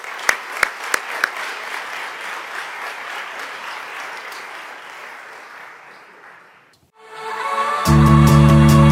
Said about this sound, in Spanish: No me extiendo más, solamente quiero pedir para todos ustedes un fuerte aplauso y desearles que sean muchos más años de éxitos y de buenos resultados.